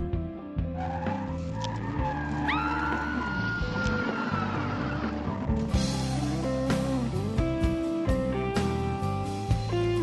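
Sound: car driving off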